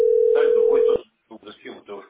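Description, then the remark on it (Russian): A single steady telephone ringback tone from a call that goes unanswered, a flat mid-pitched beep lasting about a second, with a voice talking over it, followed by more conversation after the tone cuts off. “Нет, никто не берет трубку.”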